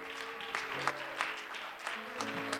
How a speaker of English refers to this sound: Why don't we applaud the Lord for his goodness?